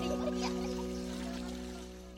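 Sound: water pouring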